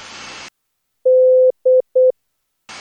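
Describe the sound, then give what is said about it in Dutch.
A steady, mid-pitched Morse code tone sounds one long beep followed by two quick short ones, clear, with bursts of static hiss before and after, as a word is spelled out in Morse code. “Vervolgens zei ik het betreffende woord in morse.”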